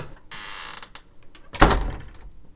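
door being slammed

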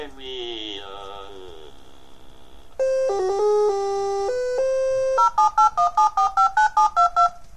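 telephone keypad dialing tones

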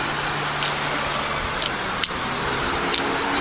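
busy street traffic

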